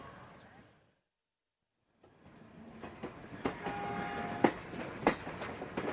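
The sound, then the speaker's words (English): An old train rumbles along the rails on a journey across South India to Calicut on the west coast, Kerala, its wheels knocking in uneven clacks over steady, fairly loud track noise, with a brief metallic squeal rising partway through after a short silent gap. “I boarded an old train for my journey to Calicut on the west coast in the province of Kerala.”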